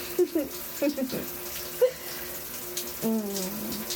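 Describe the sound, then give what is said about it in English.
A shower runs steadily throughout, a constant hiss of spraying water, with a few soft vocal sounds and murmurs rising briefly over it. “how would you like a little bit of … special shower service?”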